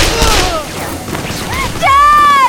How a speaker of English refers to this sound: Just beyond the doorway, a small war was in progress. Gunfire, both cartridge arms and energy weapons, everywhere.